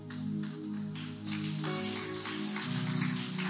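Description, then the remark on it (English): A crowd claps steadily, a dense, crackling wash of many hands that holds at an even level throughout, with a low sustained musical tone humming beneath it. “Thank you for clapping.”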